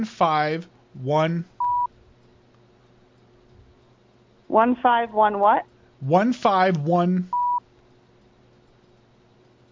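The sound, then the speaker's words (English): A voice speaks short phrases over a phone line while reading out a phone number, and each is followed by a single brief, steady keypad beep; two beeps in all, clearly audible between the words. “Okay, stop with the beep part.”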